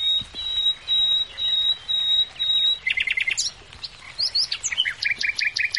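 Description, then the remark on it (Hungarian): A male common nightingale sings its territorial and mate-attracting song alone, opening with a long pure whistled note, then bursts of rapid repeated trills and sharp chirping phrases, with no talking. “És az erdők, ligetek, parkok, gazdag ajnövényzetű kertek világában már szól a hímek területfoglaló és párkereső éneke.”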